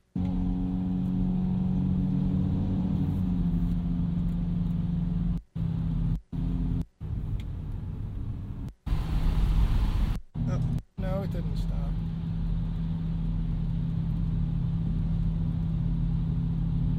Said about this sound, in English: Stupid traffic. Ruining some good. Welcome to Jersey.